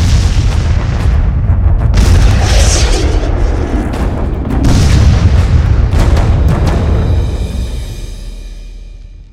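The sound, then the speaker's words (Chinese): Heavy artillery explosions from an American bombardment on a Korean War battlefield position pound continuously, deep booming blasts overlapping with sharp cracking bursts, a loud sustained barrage that rumbles on and slowly fades at the end. “娘的，3天了，这美国佬的飞机、大炮、坦克全用上了，就专轰咱们这块啊，真见鬼了。”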